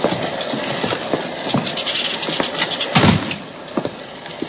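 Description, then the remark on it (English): Heavy rain pours down in a dense, steady wash of hiss, scattered with sharper splashes and thuds, loud with no voices. “It's raining so hard.”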